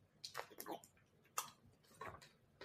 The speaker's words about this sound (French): Je vais boire un peu d'eau parce que là, ouf, faut que je m'hydrate.